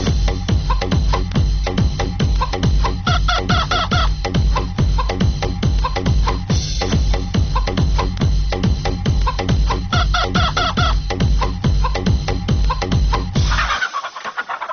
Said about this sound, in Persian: شنونده عزیز، در این بخش برنامه بیاین که از درد دل یک خروس هم با خبر شویم.